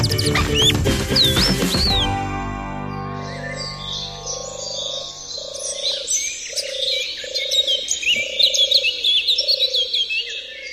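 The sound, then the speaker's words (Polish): A European turtle dove's soft purring song: low, rolling purrs repeated about six times at a steady pace, with other birds twittering in the background after a brief, loud opening sound. “Łatwo będzie zrozumieć, jak śpiewa, jak się odzywa, bo właściwie gołąb to nie jest tak śpiewający, ale jak śpiewa turkawka, jak głaszczemy takiego kota, który leży u nas na kolanach i wydaje takie mruczenie.”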